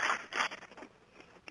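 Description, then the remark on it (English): A shotgun being cocked: two quick, rasping metallic strokes back and forth, followed by a few softer mechanical clicks and rattles, fairly quiet. “You hear the shotgun clicking, and I'm going.”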